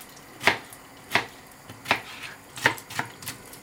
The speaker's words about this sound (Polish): Kiedy mamy już to mniej więcej uciachane, całość ląduje na patelni, żeby dać taki przedwstęp dla cebuli, którą teraz będziemy ciachać w kosteczkę. Niekoniecznie musi być drobna.